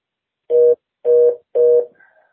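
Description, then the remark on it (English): Three short electronic telephone dialing tones beep in an even rhythm, each about a quarter second long, fairly loud, as someone places a phone call, with no one talking. “I'm going to see if I can give her a call.”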